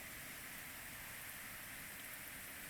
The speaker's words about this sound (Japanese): 雨の音変わってきたの。わかる？この雨にはね、私の感情が反映されるの。